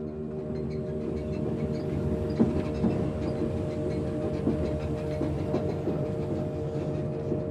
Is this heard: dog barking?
no